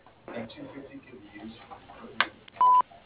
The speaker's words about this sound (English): We are unable to take your call at the present time. Please leave your name, number, and a short message after the beep, and we will return your call.